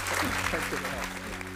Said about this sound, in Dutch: Ik wil graag een heel groot applaus